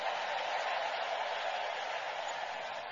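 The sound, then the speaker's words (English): A crowd claps steadily in praise of the King of Kings and Lord of Lords, a dense, continuous wash of applause, with mingled voices shouting praise and cheering underneath, holding at an even loudness throughout the three seconds. “Somebody give the King of Kings and the Lord of Lords a big clap and a big shout of praise.”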